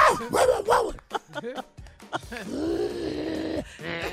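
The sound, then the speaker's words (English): A dog growls at the husband in a string of short, moaning bursts, then lets out one longer sustained growl before a final brief rumble. “That's him growling at the husband.”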